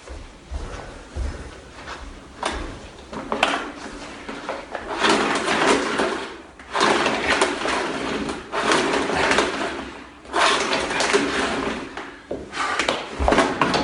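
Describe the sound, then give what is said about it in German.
Someone fiddles with a vacuum cleaner that won't switch on while trying to do spring cleaning in an apartment: clicks and plastic rattles, then long bursts of rough, hissing noise that cut off and return several times. No one speaks. “Aber ich krieg den Staubsauger, kriege ich nicht an. Und damit du mir das glaubst, zeige ich dir das mal.”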